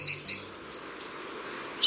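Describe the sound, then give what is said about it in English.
A Santa Marta saberwing hummingbird calls with short, sharp, high-pitched chirps: two quick notes close together at the start, then a pause before a third chirp at the end, over a soft hiss. “The Santa Marta saberwing is a hummingbird species so rare, they've only been documented twice in recent years.”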